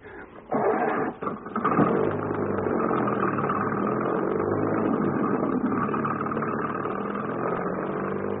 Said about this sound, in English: That must be his car going down the hill.